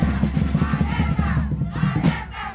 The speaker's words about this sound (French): Alors je me trouve au milieu de la place San Martín, la place principale du centre historique de Lima. C'est le point de ralliement habituel des manifestants dans la capitale péruvienne.